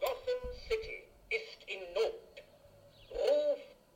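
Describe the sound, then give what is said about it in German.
A novelty alarm clock going off, sounding a run of short, hooting, voice-like tonal bursts in a mid pitch, ending with a longer, louder swelling call. “Und dieser Wecker, von dem wir gesprochen haben, den wir eingebaut haben in unseren Gute Arbeit Original Sketch mit der Präsidentschaftswahl, der klingt so.”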